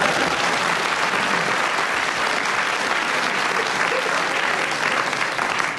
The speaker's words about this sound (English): Peter, you got in with a round of applause and a correct challenge with 0.5 seconds to go on rhymes starting now.